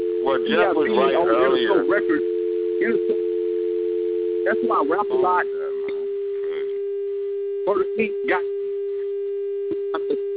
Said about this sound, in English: Somebody's got a dial tone.